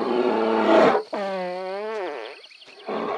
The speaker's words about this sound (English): It's like in this recording, this bear farts and like enjoys it thoroughly afterwards. There is no remorse, you know what I mean?